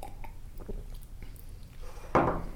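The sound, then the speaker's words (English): A person gulps water from a mug while taste-testing water: a few soft, wet swallowing sounds, then a louder slurp near the end, with no talking. “that was … drinking the water. I'm not sure if you heard the gulping”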